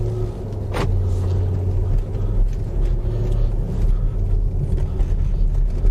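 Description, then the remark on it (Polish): A Mercedes GL SUV's engine runs with a steady, deep rumble, joined by a single sharp click early on, as the vehicle pulls away at low speed on a cold day. No one speaks. “Jak zimno jeszcze w aucie nie nagrzane, ale dobra, ruszamy.”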